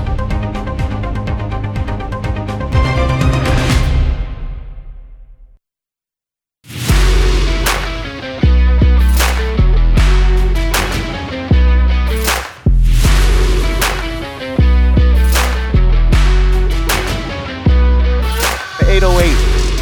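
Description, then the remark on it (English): A deep synth bass thumps heavily through a loud electronic track, pausing briefly into near silence before the beat drops back in with punchy, regular hits. “That's a thump. That's like all thumb right there, man. Yeah. What? You can't. I mean, that's obviously a synth bass, but you can't.”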